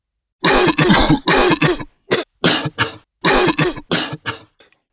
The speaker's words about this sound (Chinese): 一天晚上，这位老人咳嗽得很厉害。